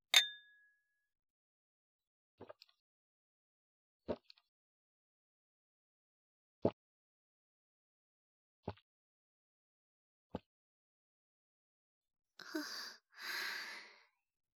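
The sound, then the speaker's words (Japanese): A single bright clink of beer glasses in a toast rings out at the start, a clear tone that fades quickly, followed by a few faint taps and a soft breathy sigh near the end. “それでは、乾杯しましょうか。”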